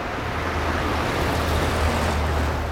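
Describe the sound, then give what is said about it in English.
A bus approaches amid road traffic: a steady, loud engine rumble with a low droning hum and broad road noise, holding fairly constant throughout, with no voices. “Ah, here comes the bus.”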